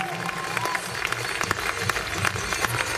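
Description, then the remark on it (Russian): A crowd applauds continuously for the finalists of a Latin dance championship, dense clapping with faint voices and cheering mixed in the background. “И громко аплодируем финалистам первенства в латинской программе.”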